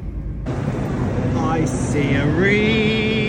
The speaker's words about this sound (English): And fortunately, my train was completely on time and I was soon zooming through the countryside towards that London.